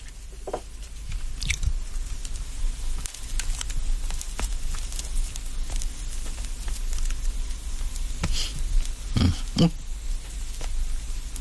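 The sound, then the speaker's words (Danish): A match is struck and flares at the start of the Radio 24/7 show Faraos Cigarer, amid scattered dry crackles and sharp little clicks over a steady low hiss, with one louder scratchy burst near the end; no one speaks. “Og I kan jo næsten stille jeres ur efter lyden af min tændstik hver lørdag aften.”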